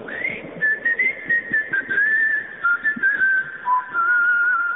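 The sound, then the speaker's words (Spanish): A person whistles a signal call to gather a group of friends, a clear melodic phrase that rises sharply at the start, then holds and wavers through several linked notes for a few seconds, with no talking. “El tango ese que cuenta cómo había un chiflido para congregar a la barra.”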